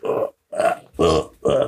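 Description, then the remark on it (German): Four short, throaty burp-like croaks follow one another in quick succession, fairly loud, separated by brief pauses, with no talking around them. “Da klang wie ein Rülpser.”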